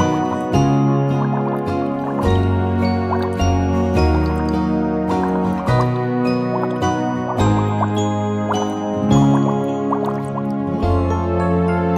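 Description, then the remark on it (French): Water bubbles and drips pop and gurgle continuously for several seconds, fairly loud, layered over a steady tonal musical background with no talking. “Les bulles.”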